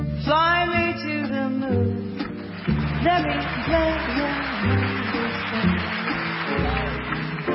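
A jazz song plays, with a woman singing smooth, sustained melodic lines over a steady instrumental backing; the music is clear, fairly loud and continuous throughout, with no talking.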